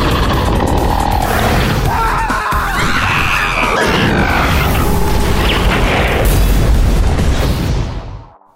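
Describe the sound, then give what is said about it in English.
An animated hammer slams back into a volcano and erupts into a loud, rumbling explosive boom as lava pours out, followed by a dense, continuous roar of crackling debris that holds steady for several seconds before cutting off abruptly. “The hammer back in the volcano and it goes boom and all the lava comes out.”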